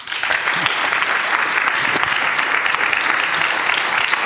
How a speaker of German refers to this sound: Herzlichen Applaus.